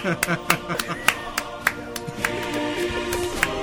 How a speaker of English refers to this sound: I'm applauding you.